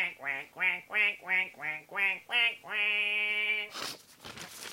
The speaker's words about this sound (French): faites rentrer le premier canard, s'il vous plaît.